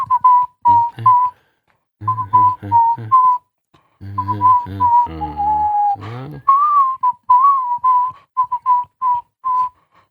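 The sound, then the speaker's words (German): Someone whistles a catchy, rhythmic tune in short punchy bursts and sustained notes separated by brief pauses, loud and clear with no talking over it. “Na, du kannst ja hier nicht die ganze Zeit pfeifen, du Flaum.”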